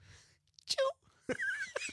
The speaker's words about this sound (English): Not like that. I bench 275, but this is how I sneeze.